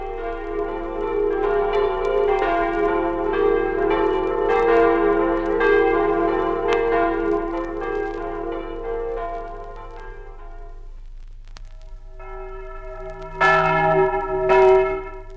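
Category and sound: signal or alarm, church bell ringing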